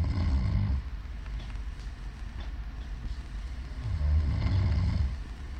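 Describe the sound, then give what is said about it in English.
A man, a groom who is not really asleep, snores in two low, rumbling breaths a few seconds apart, with a quieter, raspy stretch in between. No one speaks. “You'll hear him snoring, but he isn't really asleep.”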